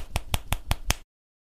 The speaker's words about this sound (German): Also nicht schnippen, es nicht ist schnippen, eigentlich Klatschen mit den Fingern, es ist oder? Klatschen mit Zeigefinger auf Mittelfinger und das hört sich so an.